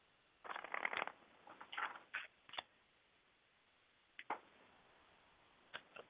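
Faint shuffling and rustling of cards being shuffled for a reading, in a few irregular bursts, a dense cluster early on, then scattered brief crinkles after a quiet stretch, with no one talking.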